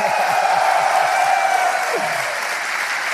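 A crowd of people applauds steadily, dense overlapping clapping at a constant loud level, with a few faint voices calling out underneath.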